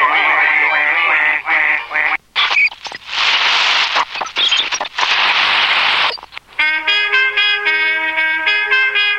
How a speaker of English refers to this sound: Oh, no. Get the geese out of the studio. Who let the geese in the studio, right? The bloody geese are in the studio.